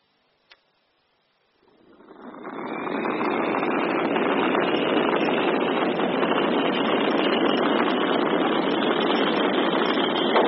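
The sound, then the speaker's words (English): A single sharp click, then an engine roars to life during an engine test, swelling over a second into a loud, steady, rushing blast of flame that holds unbroken to the end. No one speaks. “The flame's fantastic. I can hear it.”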